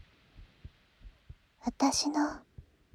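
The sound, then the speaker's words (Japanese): A soft human heartbeat thumps in a steady, muffled rhythm, with a brief quiet whisper passing over it partway through. “心臓の音。”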